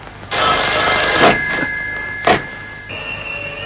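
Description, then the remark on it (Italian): A telephone rings loudly yet again, a sustained trilling bell tone that carries on for several seconds with a couple of brief brighter bursts, and no one speaks. “Ma quasi aspetta il telefonato.”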